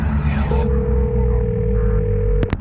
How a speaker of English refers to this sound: The phone is ringing.